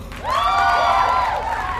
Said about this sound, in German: Applaus.